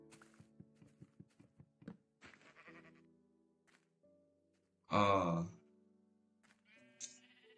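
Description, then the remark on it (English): A loud, wavering Minecraft sheep bleat rings out near the middle, standing clear above a backdrop of game-like thumps, clicks and electronic tones, with a brief higher chirp afterward. “I cannot even kill a sheep.”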